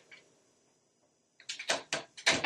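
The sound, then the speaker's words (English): A door is abruptly opened without a knock, producing a quick run of sharp clattering bangs and rattles after a stretch of near silence. No one speaks. “She did not knock on my door.”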